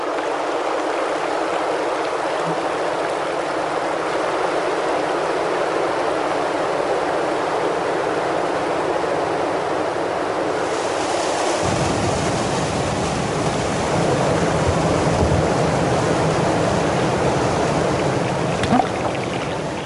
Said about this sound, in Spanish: Viene el río así, y acá se pierde el río, y aparece por acá vuelta.